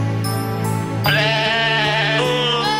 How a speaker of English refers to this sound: Well, I love goat singing Christmas carols. It's my go-to every year.